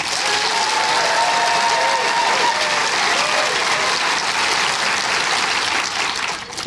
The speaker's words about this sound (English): And rather than doing shouty, because obviously, you know, one thing and another, we can do applause, okay? So, applause for Nick's list.